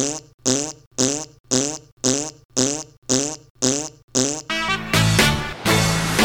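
Nine quick fart sound effects pop out in an even, steady rhythm, then give way to a longer, louder, sputtering blast, marking a score of 9 farts out of 10 for Oppenheimer on Dexy's Movie Reviews. Prominent, with no talking.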